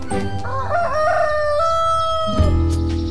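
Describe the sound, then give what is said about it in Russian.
A Gallic rooster perched on a roost crows one long, loud cock-a-doodle-doo, its voice rising and then holding a strained, wavering note before breaking off, with a low hum of background noise throughout. “Слышите? А вот и наш петушок прилетел.”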